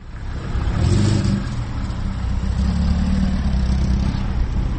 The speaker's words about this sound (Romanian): În după amiaza acestei zile am zăbovit în preajma gării auto din Cimișlia, locul în care oamenii așteaptă fără mare grabă autobuzele, prin urmare au timp să stea la taclale.